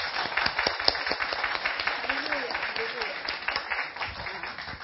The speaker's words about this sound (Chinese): 我们给耶稣拍手好不好？感谢主。